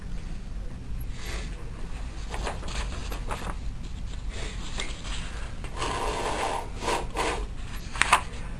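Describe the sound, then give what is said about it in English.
Sheets of paper notes for a talk being put back together, shuffling and rustling in a run of uneven, crisp bursts over a steady low hum, with a couple of sharper taps near the end and no voices. “if I get a minute, I'll just put my paper back together here.”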